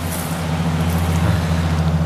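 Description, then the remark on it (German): A car engine hums steadily, its low drone holding even over a wash of road noise for a couple of seconds, with no voices. The car is approaching from the right on a street by the sea. “Hey, von rechts kommt ein Auto.”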